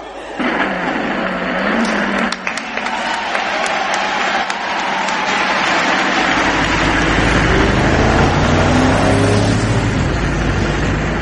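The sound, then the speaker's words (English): A car engine rumbles in and grows louder, revving as the car won as a prize is driven in, over steady loud applause and crowd noise. “Because Owen, you have genuinely won a car. Bring in the car!”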